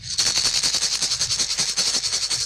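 A blind cricket ball, the kind used by blind cricketers around the world in tournaments, is shaken hard, its insides rattling in a fast, steady, bright jingle of about eight shakes per second, loud and continuous with no talking.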